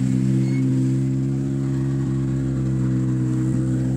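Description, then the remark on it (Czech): The turbocharged 1.6-litre engine of Jari Huttunen's Hyundai i20 rally car roars loudly and steadily on the serpentines before the stage stop, a thick droning rumble that holds throughout with a couple of brief pitch wobbles as the revs shift. “Slyšíme řev téhle přeplňované 16-stovky ze Serpentín, které jsou před stopkou.”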